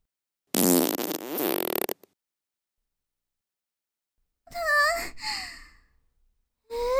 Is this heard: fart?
yes